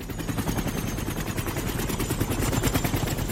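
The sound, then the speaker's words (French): A helicopter's rotor thuds in a fast, steady chop as the helicopter lands, loud and continuous for a few seconds, with a deep engine rumble underneath and no voices. “Le général descend la passerelle de l'hélico.”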